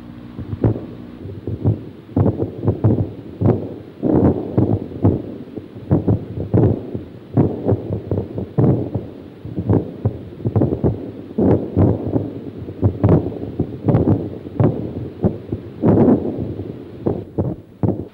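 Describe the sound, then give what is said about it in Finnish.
Artillery cannon fire from ongoing combat thuds again and again in irregular, rapid bursts, each a low, booming crack, over a steady bed of wind noise in a forest, with no one talking. “Taistelutoiminta jatkuu ja myöskin tämä tykkien jylinä päivät, yöt, illat ja aamut.”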